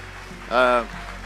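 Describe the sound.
Steady, dense applause of appreciation from a crowd at a morning church service fills the whole clip, a soft rain-like patter of many hands, with a brief voiced cheer or sung tone rising above it midway.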